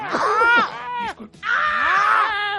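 A person screams loudly in two long, strained bursts separated by a brief pause, the voice wavering in pitch, with no talking around it.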